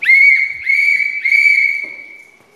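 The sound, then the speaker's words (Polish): A shrill whistle blown as an alarm signal in three blasts, a short one then two longer ones, the last held steady before fading out. Loud, with no talking. “Sygnały gwizdka uruchamiają alarm, tak?”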